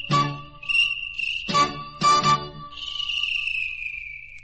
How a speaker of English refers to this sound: Yes, I love the cricket and his song.